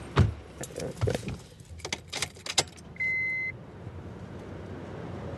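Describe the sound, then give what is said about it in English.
Keys jangle and a series of sharp clicks and clunks, like a car door and fittings, give way to a single short electronic beep over a low, steady engine rumble as someone gets into a car at Randolph and Michigan in downtown Chicago to drive to the lower level of Randolph. “But I'm going to hop in the car and head on down to the lower level of Randolph, to that road not too many people know about.”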